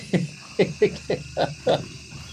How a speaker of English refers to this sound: That's a jaguar we're hearing. The growl in the background is the jaguar. That's right. So I don't know how close you have to get to a jaguar to get that. 10 meters in this case.